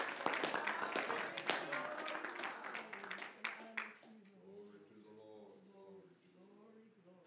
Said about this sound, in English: And go ahead and clap your hands unto God. Hallelujah.